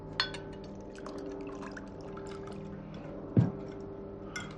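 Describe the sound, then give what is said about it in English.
Liquid pours into a glass, a steady trickling fill with a few sharp clinks of glass, one louder knock near the end. No one speaks. “He pours himself a drink and grabs his cigarettes.”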